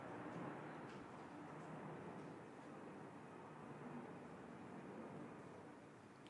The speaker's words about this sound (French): On va attendre que l'avion passe, comme ça vous allez entendre.